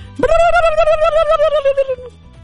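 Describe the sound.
A single drawn-out, wavering cry from a human voice imitating a peacock call, starting with a quick upward swoop, then held at a steady high pitch for nearly two seconds before trailing off.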